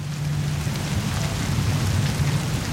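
Steady rain falls on the ground in a continuous, dense patter, with a low rumbling undertone beneath the drops. No voices, just the even wash of rainfall throughout.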